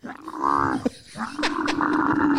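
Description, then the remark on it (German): A camel bellows in two long, loud, rough groaning calls with a brief pause between them, low and strongly harmonic, with no one talking over it. “Ich zeig dir mal, wie ein Kamel klingt.”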